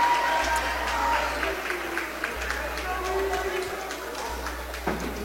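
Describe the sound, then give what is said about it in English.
A steady wash of crowd noise fills the gym at a volleyball match in Potosi, a constant roar of voices with scattered sharp claps and shouts rising through it, never dropping off across the few seconds. “Crowd still going strong here in Potosi.”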